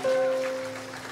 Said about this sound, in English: Amen. Yes, we can give the Lord a round of applause.